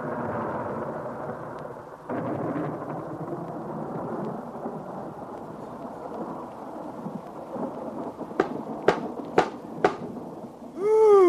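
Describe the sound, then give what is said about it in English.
Low rolling thunder from a storm at night rumbles continuously under steady rain, with a burst around two seconds and several sharp cracks near the end, followed by a rising tonal sweep. “And so it went, until one night there was a dreadful storm.”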